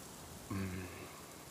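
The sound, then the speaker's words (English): Steady, soft rain falls throughout as a constant hiss, with a brief low voiced sound rising over it for a moment near the middle. “What are you doing out there in the rain?”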